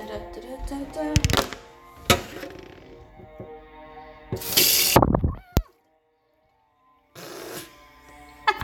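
A sudden burst of water sprays hard from a tap for about half a second, loud, after some clattering of dishes and objects in a sink, then silence. The water goes everywhere, including onto a phone.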